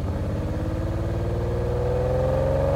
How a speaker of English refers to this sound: he's jumping in a $600,000 Lamborghini and roaring off down the road